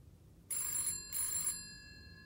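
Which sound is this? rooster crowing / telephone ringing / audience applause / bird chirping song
telephone ringing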